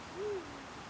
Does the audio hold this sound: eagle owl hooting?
yes